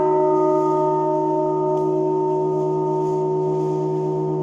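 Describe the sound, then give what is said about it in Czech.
The largest bell in a church tower, the bell of the Most Holy Saviour (Nejsvětějšího Spasitele), is struck, then hums and rings on, its deep layered tones sustaining steadily and loudly at close range with no other sounds, the resonance holding without fading. “Tak jak slyšíte, zvon ještě dlouho rezonuje a já jsem právě ohluchla.”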